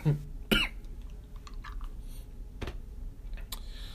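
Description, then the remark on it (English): A few sharp coughs spaced irregularly over several seconds, each a short harsh burst against a quiet, low background with no talking. “My back hurts from coughing, yo.”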